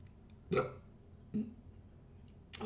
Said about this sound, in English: Oh, I'm gonna burp. We said it was gonna happen.